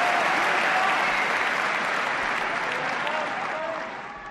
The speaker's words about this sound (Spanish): Mira cómo la Chatrier lo sabe. Mira cómo la Chatrier le quiere ovacionar. Esto es Francia, señores, aplaudiendo al mejor de los españoles.